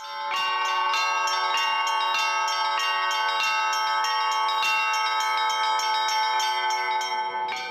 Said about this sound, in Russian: О ком звонит колокол, а может быть, он звонит и о вас